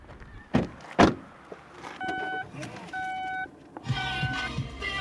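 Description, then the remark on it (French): Inside a car: two heavy thunks like doors closing, followed by two steady electronic chime tones, then a busier stretch of muffled voices or music filling the cabin. “Wow, c'est super ambiance dans votre voiture.”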